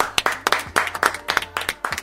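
Short burst of applause from a small group: sharp, crisp hand claps in a quick, fairly even rhythm, about six per second, moderately loud, with no voices over them.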